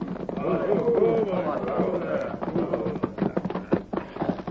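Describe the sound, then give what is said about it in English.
Riders' horses gallop around a village and rein in before a teepee, their hooves pounding in a quick, irregular clatter that grows choppier toward the end, with loud voices or whinnies ringing out over the first half. “they circled the village and reined in their horses before the teepee of Black Fox”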